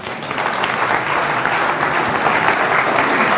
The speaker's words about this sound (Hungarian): Van egy úr, aki magától jelentkezik, parancsoljon. Már a bátorságáért is meg kéne tapsolni.